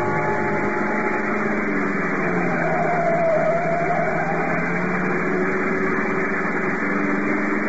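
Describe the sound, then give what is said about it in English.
A car engine runs steadily and loudly throughout, a continuous droning hum with a slight swell in pitch midway, no voices present, as the car races toward San Juan during a chase. “Out to the car, fast.”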